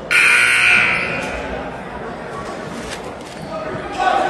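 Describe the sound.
A loud, sustained basketball game buzzer blares for about a second over crowd noise, then fades into a busy murmur of voices and court noise.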